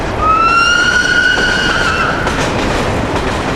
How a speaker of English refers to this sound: The overnight train from Cairo to Luxor, then the voyage down the Nile to the Valley of the Kings.